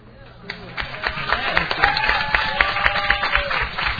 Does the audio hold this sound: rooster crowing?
no